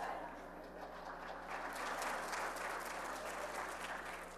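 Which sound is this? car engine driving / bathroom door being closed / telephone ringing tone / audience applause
audience applause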